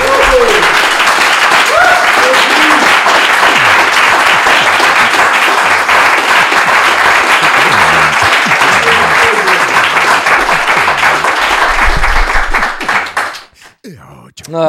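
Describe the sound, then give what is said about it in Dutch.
An audience claps and applauds loudly and steadily for about thirteen seconds, with a few voices faintly mixed in, then the applause quickly fades out and a voice begins to speak. “Mag ik applaus voor”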